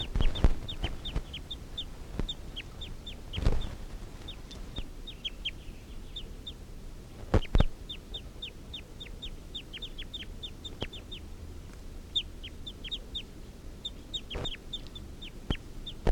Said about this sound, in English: Wild males giving a clucking call. Stop. These are the calls of that one wild male.